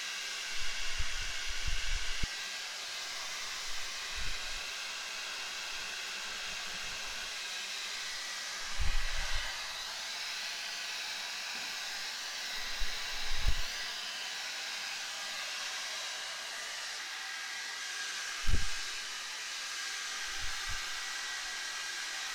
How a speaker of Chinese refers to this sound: 那就先把你弄暖和了，别动哈，我拿吹风机给你吹吹头发。